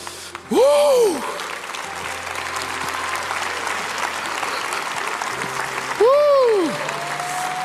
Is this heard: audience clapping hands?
yes